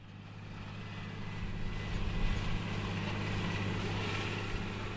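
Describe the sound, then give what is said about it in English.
A tractor engine drones steadily as the tractor moves right to left, left to right, across a field in western Kansas, a deep humming rumble with a broad hiss of machinery over it, swelling slightly midway and holding constant throughout, with no voices. “The tractor moves right to left, left to right, across a western Kansas field.”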